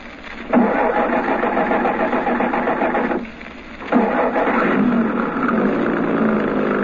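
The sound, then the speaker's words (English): A truck engine turns over and runs with a loud, steady rumble, briefly dropping off before catching again and settling back into a continuous idle. “Truck's there. Back of it towards us. Brinker must be up front. Come on. We're getting into that truck.”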